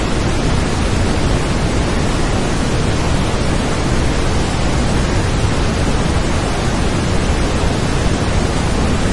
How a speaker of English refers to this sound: Before him lay the secret garden, with a rainbow waterfall cascading down into a sparkling pool, surrounded by plants that seemed to hum with life.